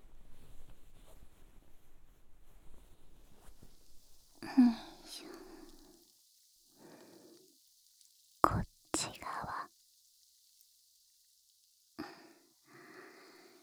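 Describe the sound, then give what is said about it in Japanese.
A soft, steady fizz of carbonated drink bubbles hisses throughout, broken by a few brief, louder bursts of crackling and faint whispered sounds. “炭酸泡、いっぱい欲しいよね。”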